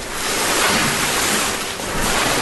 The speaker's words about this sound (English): Sorry, it's a carpet being dragged.